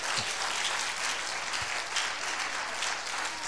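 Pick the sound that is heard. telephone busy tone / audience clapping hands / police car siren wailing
audience clapping hands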